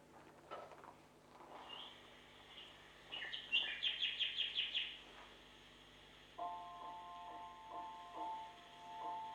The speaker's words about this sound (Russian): Вот это соловей. Слушайте, слушайте.